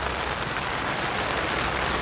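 Steady, dense patter of raindrops striking an umbrella overhead on a rainy day at a misty mountain summit, a continuous crackling hiss with no pauses. Rain is the only sound throughout, with no voices.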